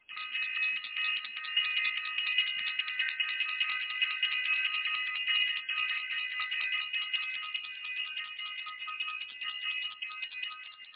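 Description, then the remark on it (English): A bell rings continuously for about eleven seconds, a bright, steady, high-pitched metallic tone with layered overtones and a fast shimmering flutter, holding an even loudness throughout with no talking. “I want to ring the bell.”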